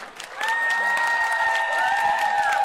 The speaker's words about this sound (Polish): Wielkie brawa dla wszystkich i z zielonej, i czerwona jedynka także, słuchajcie, pięknie. Więc tak, dla jedynki czerwonej brawa.